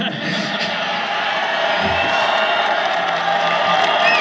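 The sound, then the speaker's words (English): A large crowd of fans yells and cheers continuously, shouting "Love you, Rory," a dense wall of voices with scattered whoops rising above it, loud and sustained throughout. “People yelling as we're talking, "Love you, Rory."”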